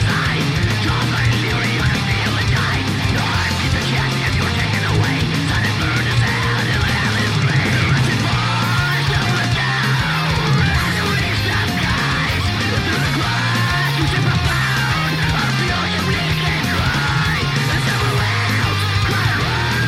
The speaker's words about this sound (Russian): И, в общем, эта песня как бы посвящается людям, которые именно ушли таким трагическим и нежелательным способом. В общем, это грустная песня. Да, но мы можем, да, немного хотя бы чуть-чуть рок послушать и вот представить, по крайней мере.